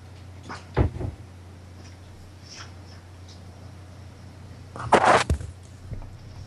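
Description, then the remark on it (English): A bedroom door being handled: a single dull thump, then a few seconds later a quick cluster of clicks and knocks as it swings shut and latches, over a steady low hum. “I'll go close my door.”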